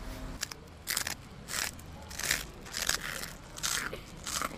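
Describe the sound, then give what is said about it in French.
Crisp crunches of someone biting into a crunchy rusk (biscotte), about six bursts in a steady rhythm with chewing in between, no talking. “Bon, la biscotte, c'est pas un truc que j'aime vraiment. Ça se casse, à tartiner, c'est un cauchemar.”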